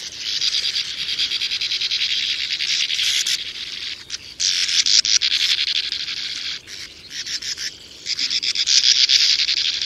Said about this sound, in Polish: Głosy żebrzących o pokarm piskląt są przytłumione i nieco zniekształcone, gdyż komora lęgowa znajduje się na końcu metrowej długości tunelu wykopanego w piasku.